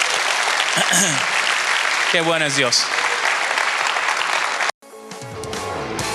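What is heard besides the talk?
audience applause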